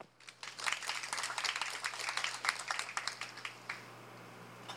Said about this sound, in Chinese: 掌声欢迎周副总